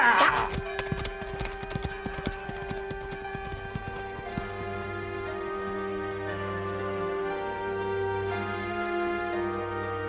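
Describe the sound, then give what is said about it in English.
Paul Revere's horse, taken from him, clip-clops in a brisk, steady rhythm, starting loud, then thinning out and fading, over a sustained musical drone. “Take his horse and let's go.”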